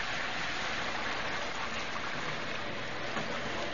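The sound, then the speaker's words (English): Steady rain falls continuously, a dense, even hiss of drops pattering on a surface, moderately loud and unbroken with no voices. “What with all the rain, maybe Lucy thought better and stayed in town.”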